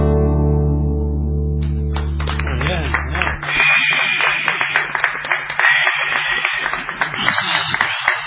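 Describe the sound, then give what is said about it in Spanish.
A sustained musical chord rings out and fades, then an audience breaks into dense, loud applause with scattered cheers and whistles that continues steadily to the end. “Esa ovación es una continuidad de su interpretación, me parece.”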